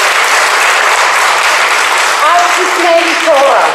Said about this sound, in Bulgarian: Още веднъж бурни аплодисменти.